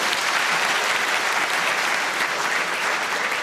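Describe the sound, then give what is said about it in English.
A crowd claps steadily, a dense, even wash of many hands applauding at full volume throughout, with no voices standing out. “Round of applause, please”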